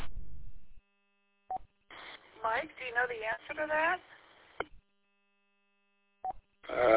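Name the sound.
radio repeater beep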